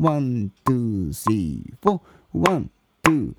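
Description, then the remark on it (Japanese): Sharp hand claps land in a steady rhythm about every half second, each coinciding with a counted syllable ('1, 2, 3, 4') from a voice, while a faint metronome click sounds on the offbeats, in a rhythm practice exercise. “で、この 4&のところに 4-1 1と言いながら手拍子も打つと勝手にこれ1拍目になってくれます。”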